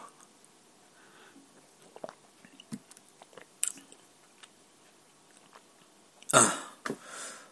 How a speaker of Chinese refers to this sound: 喝口水